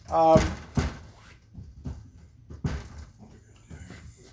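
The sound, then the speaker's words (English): A door is eased partly open with a short, squeaky creak and a soft knock, followed by a few quieter thuds and faint shuffling. “could you crack the door a little bit?”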